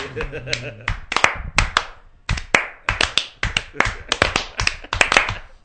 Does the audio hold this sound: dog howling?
no